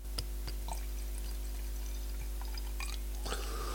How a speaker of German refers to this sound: Ach, ich liebe das Geräusch, wenn der Wein ins Glas läuft. Ein monströs gutes Geräusch.